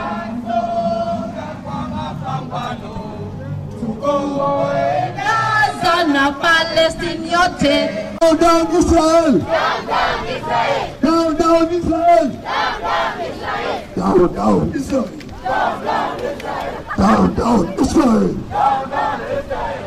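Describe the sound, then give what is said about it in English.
A large crowd chants and shouts together in loud, rhythmic bursts, many voices rising and falling continuously, energetic like marchers calling out in unison, at the Walk for Palestine solidarity event of the Kenya-Palestine Solidarity Movement, held in Mombasa, Kenya, on February 24, 2024. “Here's more crowd sound from the event.”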